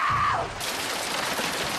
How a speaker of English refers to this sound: Hail falls heavily on the porch steps.